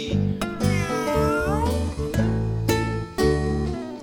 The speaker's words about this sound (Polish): Kociechun swocie, co robisz na płocie? Tańczy i miauczy, miauczy i psoce. Tańczy i miauczy, miauczy i psoci.